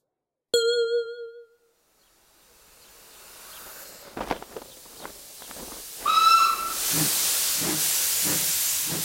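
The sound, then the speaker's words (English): After a single ringing chime, hissing steam swells and grows loud, broken by a few chuffs, then a short, shrill steam train whistle blasts before the hiss continues with rhythmic puffing. “Oh no! Mickey! The train!”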